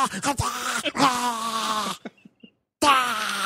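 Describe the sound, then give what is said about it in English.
In a film scene, a boy's voice imitates growling, hyena-like animal noises: strained, throaty groans in broken bursts, then a short gap before another rough growl starts. “It's just like hyena noises.”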